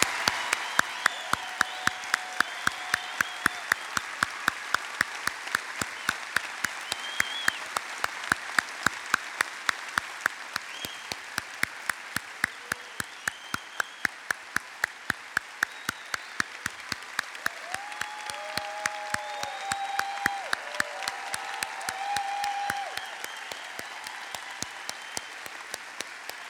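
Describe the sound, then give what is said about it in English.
An audience applauds people in the military who have stood up, clapping steadily for nearly half a minute, many hands in a dense, sustained wash with a few sharper individual claps and faint whistles rising over it. “Come on, let's give him a big hand.”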